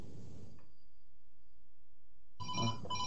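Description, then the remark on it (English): A phone ringtone for an incoming call bursts in suddenly after a short stretch of near silence, loud, bright electronic tones, cut off within a second. No one speaks. “Excuse me, I got a phone call.”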